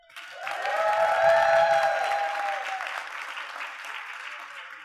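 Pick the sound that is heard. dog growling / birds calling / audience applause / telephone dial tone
audience applause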